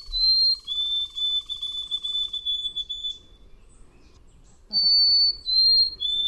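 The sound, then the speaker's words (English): A white-throated sparrow sings two clear, pure whistled phrases of long sustained notes, each holding steady then stepping to a slightly different pitch, with a quiet pause between the phrases. “That would be the white-throated sparrow”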